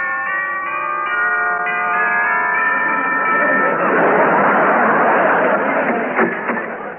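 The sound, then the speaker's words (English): A doorbell chime at a bare little house with a garden in Kew Gardens rings out with sustained, overlapping bell-like tones that ring for a few seconds, then fade into a muffled, noisy rumble. “I stepped gingerly over the gypsy tea roses in her garden and rang her chime.”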